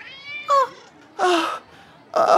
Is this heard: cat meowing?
yes